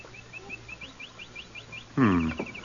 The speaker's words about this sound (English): The birds is going about their business all right.